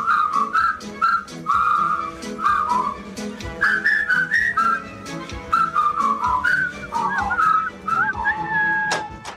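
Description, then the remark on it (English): A person whistles the lively, bouncy melody of a well-known whistling song from an 80s movie in short phrases, the clear tone hopping between notes over a steady rhythmic backing, fairly loud with no talking. “I'm going to go out on a ledge and say that if you can whistle, you've whistled this song.”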